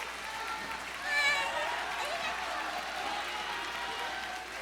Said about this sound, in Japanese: 皆さん、盛大に拍手でお送りください。